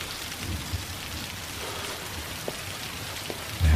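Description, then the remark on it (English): Steady rain falls continuously as Mr. Darcy walks away in a scene from Pride and Prejudice, a dense hiss of drops with a few sharper patters, ending in a sudden low rumble that swells at the very end. “And he walks away in the rain.”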